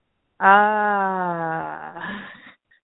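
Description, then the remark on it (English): A person vocalizes a single sustained, strained wail imitating an alien scream, starting abruptly loud, holding a steady pitch that slowly sags, then breaking into a rougher, wavering tail before cutting off. “That's how an alien screams, just so you know.”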